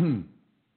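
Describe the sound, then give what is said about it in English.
A single short, throaty cough or throat clearing from a man, one quick voiced burst that fades out within a fraction of a second. “excuse me, please, I got a cough.”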